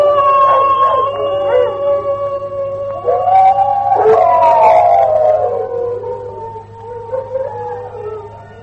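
Several wolves howl together in long, overlapping wavering cries that rise and fall, loud, over a steady low hum, with no talking throughout, in the horror drama Night of the Wolf.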